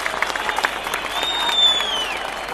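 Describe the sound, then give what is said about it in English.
A large crowd of Hatayspor football fans at the Mersin Stadium roars and claps steadily, cheering on their side before the last game of the season, the rain stopped and the sun out, with a long high-pitched whistle sliding over the din midway through; no clear talking stands out. “And Hatayspor's fans had gathered en masse at the Mersin Stadium to cheer on their side.”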